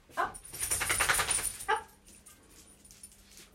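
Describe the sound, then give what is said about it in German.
Tibor, a dog that has just got up from the carpet in a bedroom and needs to go out the door, gives a couple of short, sharp yelps with a whiny, whimpering edge over about a second and a half, followed by quieter rustling and faint noise. “weil jetzt unser Hund, der Tibor, gerade aufgestanden ist.”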